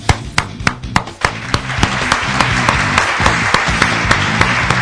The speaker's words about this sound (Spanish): No sé si tus aplausos eran para este programa o para el otro. No importa, usted mande aplausos, que siempre queda bien.